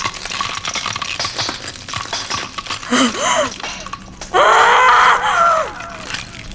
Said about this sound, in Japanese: 女神が叫んでいる。どういうことだ。女神は眠りについていたんじゃなかったのか。